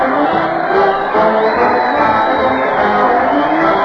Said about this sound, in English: Listen to the crowd cheer